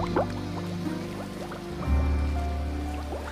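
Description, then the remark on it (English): A truck that rolled down a hill sinks into a large pond and submerges completely, with steady gurgling and bursts of rising bubbles over a deep, rumbling churn that swells partway through, fairly loud, no voices. “Taylor arrives and watches the truck sink into the water.”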